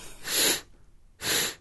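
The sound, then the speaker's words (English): Two sharp nasal sniffs, about a second apart, fairly loud, each a short hissing rush of air drawn through the nose with quiet in between and no talking. “So are you going to stop making noises on... I mean the swallowing noises? Not, well, the sniffing noises, too.”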